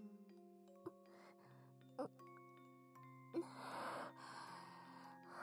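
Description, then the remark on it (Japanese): A four-note "pinpon panpon" announcement chime plays in slow steps, each sustained tone shifting pitch, fairly soft, with a breathy hiss rising under the last notes. “ピンポンパンポン。”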